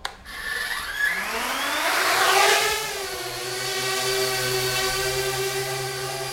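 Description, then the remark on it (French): A remotely controlled drone's motors spin up with a rising, whining pitch over a couple of seconds as it takes off automatically after the takeoff button is pressed, then settle into a steady, buzzing whir with a layered tonal hum. No one speaks. “Et à partir de ce moment-là, j'ai plus qu'à appuyer sur ce bouton qui est le bouton de décollage pour faire décoller le drone de manière automatique.”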